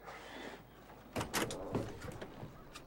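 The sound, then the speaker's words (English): A van door is opened: a couple of sharp mechanical clunks followed by a brief sliding rattle, moderately loud over a quiet background, with no one talking. “He sighs and looks towards the house, then back towards Eloise before opening the door.”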